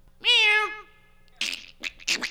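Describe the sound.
A person lets out one loud, drawn-out imitation of a cat's meow that bends downward in pitch. After a short pause come several breathy, sputtering noises.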